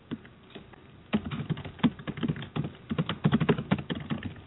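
Rapid typing on a computer keyboard, a dense run of sharp, uneven key clicks that starts after a brief quiet moment and continues steadily with bursts of faster strokes.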